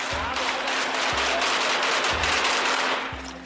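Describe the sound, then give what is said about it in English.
Loud, close gunfire from soldiers shooting at a massive truck right outside the house: a dense, continuous crackle with heavy low thuds landing roughly once a second, filling the whole stretch with no voices. “Until I'm woken by the sound of gunfire. Only this time, it's closer.”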